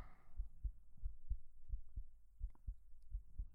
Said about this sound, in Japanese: 心臓の音？そっか、腕越しに伝わってるよね。そう、すごくドキドキしてる。